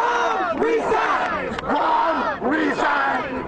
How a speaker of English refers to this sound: Large crowds of people are protesting in downtown Chicago today, calling for Mayor Rahm Emanuel to step down.